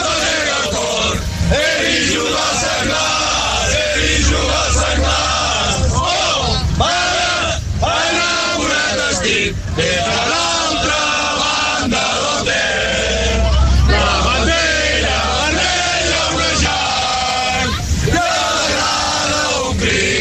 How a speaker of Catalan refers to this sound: Dèiem, així sonava l'afició aquesta tarda quan eren els autobusos que baixaven cap a la Foixarda